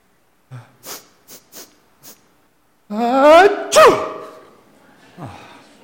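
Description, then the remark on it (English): A person fakes a sneeze out loud to start off a church worship service: a few short, quick breathy catches build up into a long rising voiced 'ahh' and then a sharp, loud burst, with a softer sniff trailing after. “I was wondering what people would do if I would start off with a fake sneeze.”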